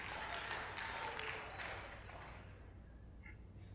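A group claps in a dense burst of applause that fades away after a couple of seconds, leaving quiet low hum and faint background murmur.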